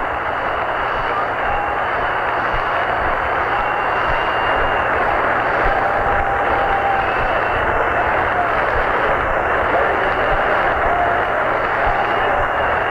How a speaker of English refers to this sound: He's in with a stand-up double. A two-base hit for Al Kaline. Hit number 3,000 in his fabulous career of 22 years. as a member of the Tigers. Listen to this standing ovation.